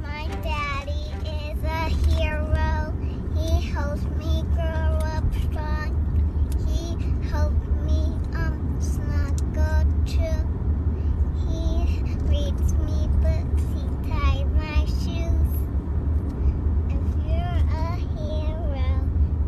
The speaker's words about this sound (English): sitting in the back seat of the … car singing a hero song for her father, Christopher Watts.